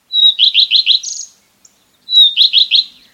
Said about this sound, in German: Das hier ist auch so ein Langstreckenflieger, der in Afrika überwintert. Der Gartenrotschwanz. Im Sommer können Sie ihn an seinem zitternden roten Schwanz erkennen, wenn er auf niedrigen Ästen oder Büschen sitzt und auf Insekten wartet.